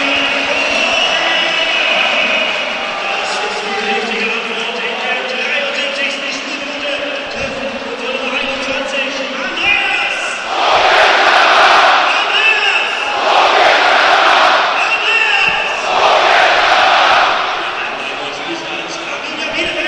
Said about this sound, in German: Wir genießen mal erst den Jubel.